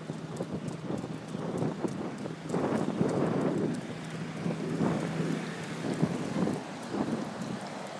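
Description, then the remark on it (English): Gusty wind blows steadily on a riverside path by the Thames in the morning, with low rumbling buffets and rushing surges that rise and fall over several seconds; no voices are heard. “A bit blowy this morning.”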